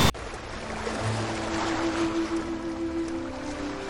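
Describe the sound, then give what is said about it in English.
Soft, steady water gently lapping against the hull of a boat on a calm lake, with gentle rhythmic swells in a continuous hiss and a faint low hum underneath. No voices are present. “The only sounds now were the gentle lapping of water against the hull and the ragged breaths of the disciples.”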